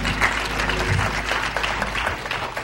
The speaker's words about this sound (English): Are you glad? And give him a hand clap of praise.